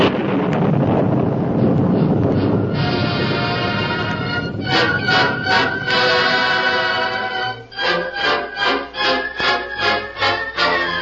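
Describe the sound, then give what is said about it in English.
A loud, steady rush of thunderstorm wind and rain fills the opening seconds, then dramatic orchestral music swells over it and ends in a series of pulsing, rhythmic chords. “Within a half hour after the rain began to fall, the Lone Ranger and Jimmy Hightower had freed themselves from the stakes and were astride their horses that the outlaws were unable to catch.”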